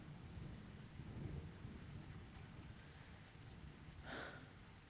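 thunder rumbling with rain

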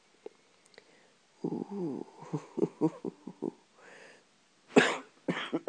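coughing fit

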